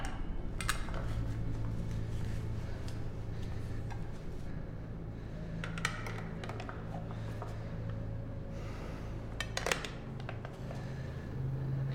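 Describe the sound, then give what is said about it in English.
Steady low kitchen hum with a clock and a few scattered, sharp clinks of dishes and cutlery at irregular moments, and no talking. “In the kitchen.”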